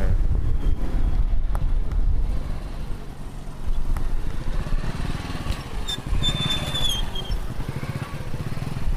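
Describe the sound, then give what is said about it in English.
A motorcycle taxi engine drones steadily while bumping along a rough, stony road off the main highway, heading to Laibi on the southern edge of Gulu, with wind buffeting the microphone and brief high chirps of birds or squeaks breaking through near the end. “The rough stony road off the main highway gives me the feeling that we're heading upcountry”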